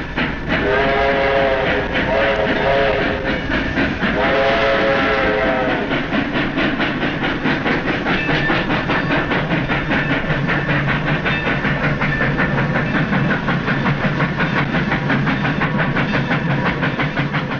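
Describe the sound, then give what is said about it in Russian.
A slow passenger train rolls along the rails: two long horn blasts sound first, then a steady, loud rumble with rhythmic wheel clatter continues to the end. No one speaks. “Лучше всего на тех нескорых поездах, что так обычны в России.”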